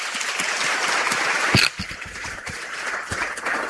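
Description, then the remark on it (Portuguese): A crowd of people over 60 claps for themselves steadily for a few seconds, a dense wash of many hands at moderate volume, with a brief louder burst midway and no one speaking over it. “E agora, meus colegas idosos, depois dos 60, palmas para nós.”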